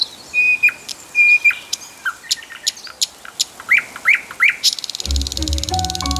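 A lively birdsong chorus: sustained whistles, quick rising chirps and sharp tweets overlap from several birds, with no talking, before a steady, lower-pitched sound takes over in the last second.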